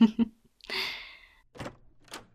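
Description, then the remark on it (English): A door is opened: a couple of quick knocking thunks from the latch, then a soft breathy sweep as it swings, followed by a few faint shuffling bumps. “I'm not trying to give him a shock at the door, as much as he would probably enjoy the view.”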